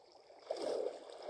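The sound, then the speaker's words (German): Water rushes and churns in a steady, broad wash, swelling into a louder gurgling surge midway and then settling back into a continuous flow. No voices are heard. “Ah nein, das Wasser treibt mich wieder raus.”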